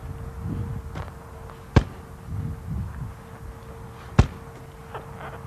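Two hard thumps of a swing striking a punching bag, spaced a couple of seconds apart, with low rumbling background noise between the hits and no talking.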